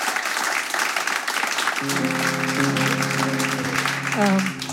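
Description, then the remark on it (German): A crowd applauds steadily for a singer and her backing vocalist on stage, with dense, even clapping; about two seconds in, a sustained low musical tone or chord enters and holds beneath the applause until the end. “Und bevor wir 2 Songs hören und in der letzten halben Stunde natürlich noch 2 weitere, würde ich sagen, gibt's noch mal einen kleinen Applaus.”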